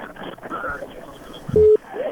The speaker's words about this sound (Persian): تلفن قطع شو.